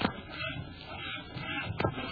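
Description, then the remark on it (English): A steady, raspy scraping of someone sawing wood, fairly quiet, with a couple of sharper strokes standing out, and no voices. “Sam, is that someone sawing wood?”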